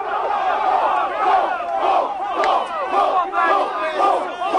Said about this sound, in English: But on Warrior Days, the last exercise in the freshmen's basic training over the summer, screaming for the squadron was mandatory.